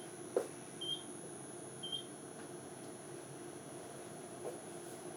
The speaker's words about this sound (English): Ooh, that's a timer.